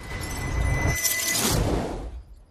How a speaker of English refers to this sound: But she sits up in bed after being woken again, this time by the sound of smashing glass coming from the attic.